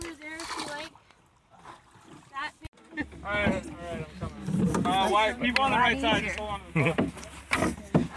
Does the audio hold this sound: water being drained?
yes